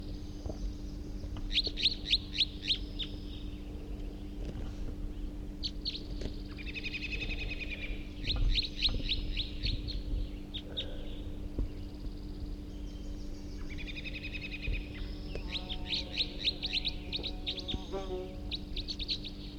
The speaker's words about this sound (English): Here comes one of the wild birds. Here comes another one. Two wild birds here now. They were just chittering in flight.